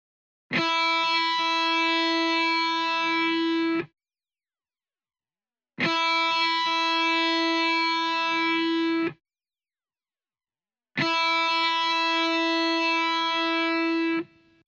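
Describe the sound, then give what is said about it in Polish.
The open E1 string of a guitar played three times as a reference note for tuning. Each bright, buzzy note holds steady for about three seconds and stops abruptly, with silence between the notes and no talking. “Dźwięk pustej struny E1.”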